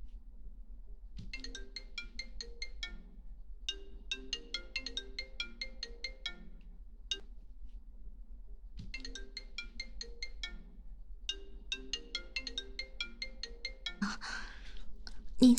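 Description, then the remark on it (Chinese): A mobile phone ringtone plays a bright, repeating electronic melody through two full cycles with a short pause between, clear, ending with a brief rustling bump as it is picked up. “你怎么又打电话过来了？”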